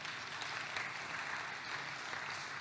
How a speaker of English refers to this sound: Yeah, you can give it a round of applause, that's okay.